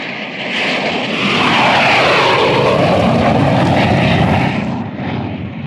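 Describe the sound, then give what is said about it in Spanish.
A loud combat jet roars past over the island of Macedonia, its rushing engine noise swelling to a peak and sweeping in pitch before easing away, with another jet coming after it. No voices are heard. “Un avión de combate perfecto, jefe. Y viene otro más.”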